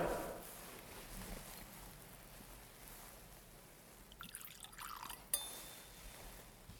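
A faint trickle of water poured into wine in a glass vessel, ending in a light clink of glass against glass, heard quietly against a soft hush.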